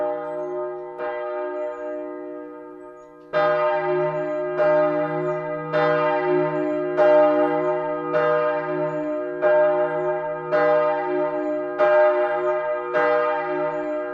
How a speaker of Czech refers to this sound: Najdeme ho ve zvonici poutního areálu v Dobrši, který se nachází kousek od Volyně v předhůří Šumavy. Zvon Maria z roku 1561 váží 1600 kg a má nádherný hlavní tón D1.